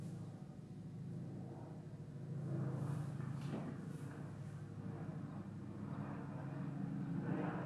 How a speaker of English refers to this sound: Bo hears an airplane passing overhead and looks toward the window.